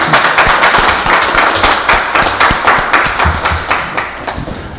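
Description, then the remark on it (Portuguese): A sustained round of applause at a city council session, many hands clapping densely and steadily at a loud, even level that tapers slightly toward the end. No voices stand out. “Não é toda hora que a excelência é saudada com a salva de palmas, né?”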